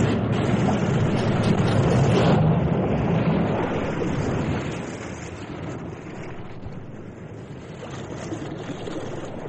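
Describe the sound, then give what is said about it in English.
Heavy sea waves surge and crash inside a cave by the sea with a deep, rumbling, echoing roar, the wash swelling loud early on, then easing into a steady churning hiss. “In this cave by the restless sea, we are met to call from out of the past stories, strange and weird.”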